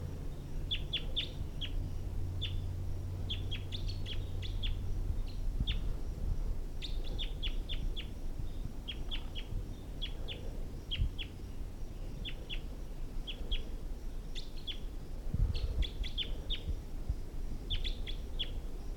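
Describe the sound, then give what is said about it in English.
A wild male bird sings high up in the trees, repeating short bursts of high, sharp chirps in quick clusters over a steady low rumble, with no voices. “So recording, that wild male. It's high up in the trees now.”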